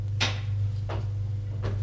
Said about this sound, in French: Au premier, elle va ouvrir la porte du milieu.